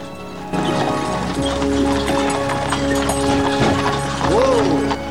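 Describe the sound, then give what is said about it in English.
Hooves clip-clop steadily as four horses splash through muddy puddles pulling a carriage through the countryside, with creaking wheels and harness, then the pace eases as the driver slows to a stop beside a gate; a horse whinnies near the end. “Now, four horses splash through muddy puddles as they pull a carriage through the countryside.”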